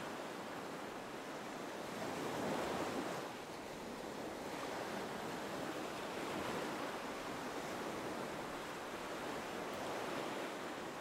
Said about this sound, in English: Notice the beach you're on, the sound of the waves.